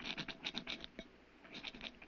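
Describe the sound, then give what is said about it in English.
A rock scrapes across the outside of a lead door, scratching something onto it, in a quick run of harsh, rasping strokes, pauses briefly, then scratches again in a second burst. No voices are heard. “What are you doing with that rock? I want to scratch something on the outside of this lead door.”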